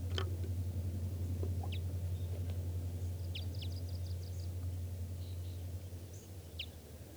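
bird, wild birds calling

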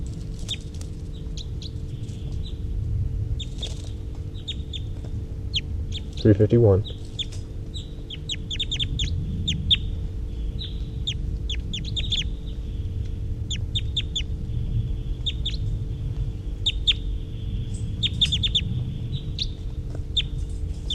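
bird, high-pitched bird calls

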